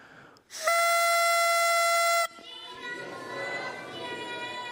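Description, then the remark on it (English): A small toy kazoo, horn or whistle gives one loud, steady blast lasting about a second and a half as a cue for the group to say "Jesus loves thee", then cuts off as a room full of voices, including children, murmurs and calls out. “When I blow this little kazoo or horn or whistle or whatever, you just say, Jesus loves thee.”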